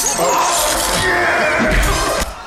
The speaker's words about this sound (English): Yeah, that's his first move. First move. Smash the guy's hand with the glass.